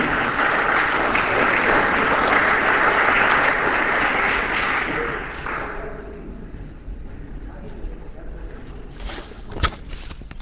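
An audience claps steadily in a dense, crackling wash of applause for about five seconds, then the clapping fades out, leaving a low rumbling background with a sharp click near the end.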